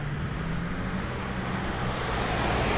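cars passing on road

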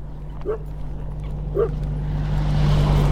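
dog barking

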